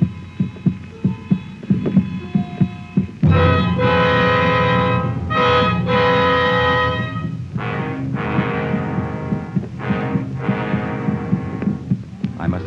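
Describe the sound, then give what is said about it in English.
A low, rhythmic throbbing pulse like a heartbeat beats steadily in a 1-2-3 rhythm, a heavy vibration felt in a person's head, then a loud sustained humming drone with shifting tonal overtones swells over it and continues to the end. “It is almost constant, in a 1-2-3 rhythm, and sometimes it is a sound as well as a vibration, like the distant sound of the sea.”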